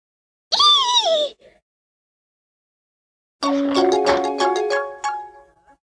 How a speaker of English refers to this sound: Oh, there's the doorbell. Who is it?